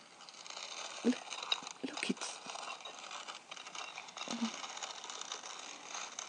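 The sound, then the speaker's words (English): A mechanical clanking and ratcheting, like an old door mechanism grinding open, with a few heavier thunks over a steady hiss of moving parts. “It's a door.”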